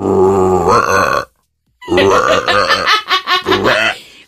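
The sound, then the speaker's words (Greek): A voice on a show imitating a frog's croak, like a frog puffing up its throat: a long, throaty, burp-like croak, a short pause, then a run of rhythmic pulsing croaks, loud and guttural, with no talking. “Όχι, θα φουσκώσεις το προγούλι και θα βγάλεις ένα περίεργο θόρυβο.”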